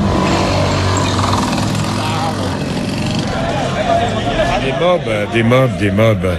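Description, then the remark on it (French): A small moped taxi engine runs steadily, its buzzing drone filling a street in Cotonou, Benin, while busy city traffic and voices rise and fall around it. “Des mobs comme celle-là, il y en a 30 000 dans Cotonou.”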